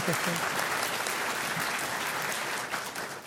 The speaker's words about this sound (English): Doesn't it feel good when you just express yourself? Why do some people clap and then stop?